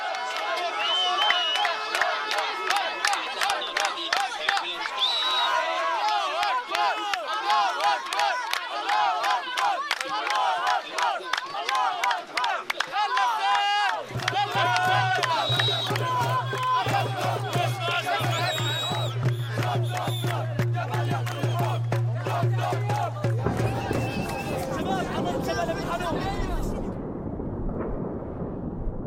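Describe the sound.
A large crowd cheers and shouts continuously in celebration and joy over a truce in a war, many excited voices layered together. Partway through, a steady low droning tone runs beneath the noise for about ten seconds before the cheering turns rougher.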